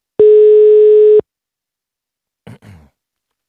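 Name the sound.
telephone call tone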